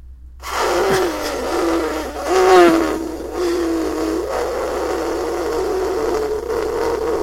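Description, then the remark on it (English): A person imitates an elephant trumpeting with one long, breathy, buzzing blast. The pitch wavers, swells upward partway through, then holds for about seven seconds. No one talks. “That was not a good elephant, and now I'm dizzy.”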